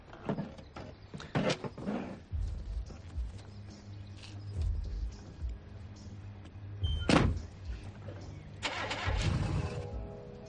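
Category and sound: vehicle, car engine starting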